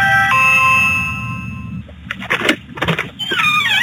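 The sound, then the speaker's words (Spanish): A Ring video doorbell, pressed late at night by a group of young men at the door, plays a bright two-note electronic chime that rings out for about two seconds, then fades into scuffing and clattering noises and a wavering electronic warble at the end. “Y cuando le tocan la cámara ring, los vatos se alejan y miren lo que le dicen.”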